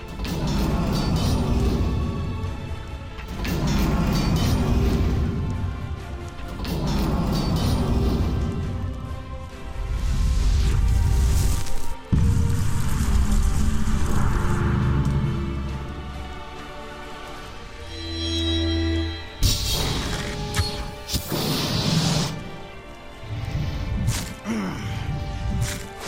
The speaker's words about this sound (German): Komm Leute, wir haben lange keinen Kampf mehr gehört, den hören wir uns mal an. Wir gegen drei Hydra.